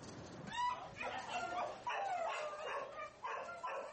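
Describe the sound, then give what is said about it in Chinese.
Several dogs abandoned by their owners bark and whimper in a steady, overlapping chorus of sharp yelps and high whines, moderately loud, with no one speaking, in an animal shelter in Taiwan where they have been kept for weeks. “这些狗被主人遗弃，它们已经在收容所数周了，没人想收养它们。”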